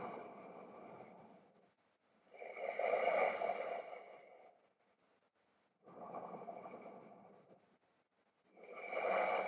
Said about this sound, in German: Der atmet sehr laut und deutlich. Ihr könnt auch einen sanften Ujjayi-Atem machen.